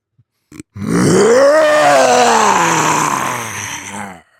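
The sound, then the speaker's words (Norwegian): A person's voice imitates a lion's roar in one long, loud, gravelly growl lasting about three and a half seconds, rising in pitch then slowly falling and fading, after a couple of brief clicks. “Jeg må bare gå inn i kan jeg få 3 sekunder bare til å gå inn i løvemodus?”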